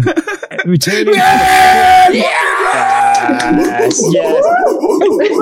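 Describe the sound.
A small group bursts into loud cheering, with overlapping yells and whoops sustained for about three seconds, then trailing off into excited voices.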